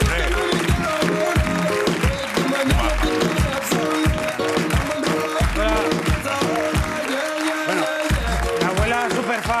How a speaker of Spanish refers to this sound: Ahí está la abuela. Es súper fan. Un aplauso a la abuela.